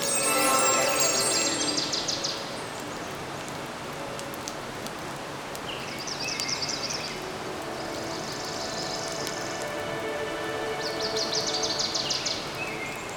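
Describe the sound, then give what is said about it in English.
A steady, broad rush of falling water from Yosemite Falls in Yosemite National Park fills the whole scene, while bursts of high, buzzy critter chirps rise above it several times at irregular intervals. “We're ready to return to Sparkle Forest and use the sound of the critters and the waterfall from Yosemite National Park to meditate, get centered, stay calm, and relax.”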